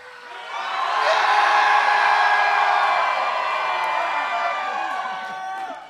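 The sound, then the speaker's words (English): A large group lets out a loud, sustained yell and cheer, voices swelling quickly and holding for several seconds before tapering slightly, with high whoops mixed into the roar. “Could we do like a yell, like a really big?”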